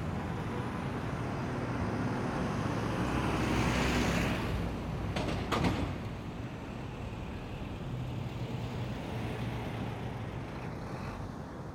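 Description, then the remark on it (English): A city field recording of steady traffic rumbling throughout, with a car swelling past midway and a brief sharp transient, then the low roadway hum continues without any voices. “So I went out and started recording in the city, recording cars passing by.”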